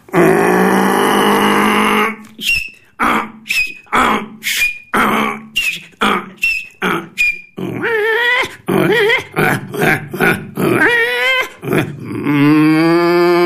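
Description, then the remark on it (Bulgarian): On Radio K2, a man imitates a donkey's bray: a loud, strained drawn-out cry breaking into a rapid string of rhythmic hee-haw bursts, then harsh rising honks and a final sustained groan, with no other sounds. “Изреви като магаре. Ето го, мъж като магаре.”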